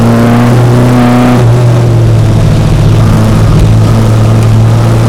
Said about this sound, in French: Voilà. Le moteur est à 1750, c'est quoi? C'est le 2 litres. C'est le 2 litres qui est dessus. C'est le 2 litres qui est dessus, la caisse elle est 1500, c'est le moteur 2 litres qui est dessus.